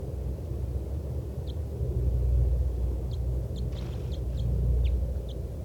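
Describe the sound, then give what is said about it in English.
A wild bird by a caged bird under a lodgepole pine chitters in a loose series of short, high, faint chirps, several clustered in quick succession, over a steady low rumble with no talking. “Chitter by the wild bird.”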